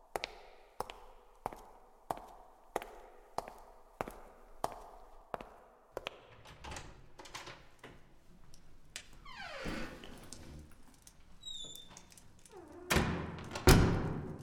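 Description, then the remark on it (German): Heavy footsteps thud quickly and evenly, about nine or ten strides in a steady rhythm, approaching a door late in the evening, before giving way to shuffling and clattering noises with a sharp knock-like burst near the end. “nähern sich schnelle, schwere Schritte seiner Tür.”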